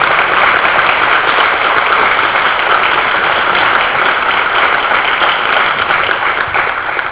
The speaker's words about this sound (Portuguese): Mas com aplausos, né?